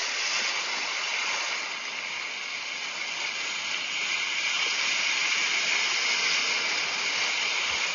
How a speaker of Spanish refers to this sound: Miren qué increíble, duró un poco más, pero sí me puso el sonido del mar. Escúchenlo.